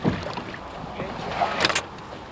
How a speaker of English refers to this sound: Down on the water, Edwards paddles about a bit and then pulls up to the dock.